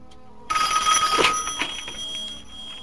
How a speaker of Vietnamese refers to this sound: 9:30 tối 30/4, chuông điện thoại reo vang.